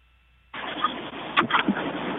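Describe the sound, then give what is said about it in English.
A car engine starts after a brief silence, with a sudden rush of steady rumbling noise that stays loud, slightly muffled as if heard over a phone line, as a caller connects his phone to his car via Bluetooth. “No, he just Bluetoothed into his car.”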